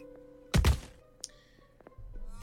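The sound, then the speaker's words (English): A single heavy, loud thud of something striking a wall, followed by faint clattering and low background noise. “It will land with a thud against the wall.”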